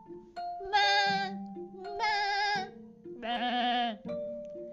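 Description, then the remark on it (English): Three loud, quavering billy goat bleats come one after another at a steady pace, each about half a second long, with soft tonal sounds between them. “Once upon a time, there were three billy goats.”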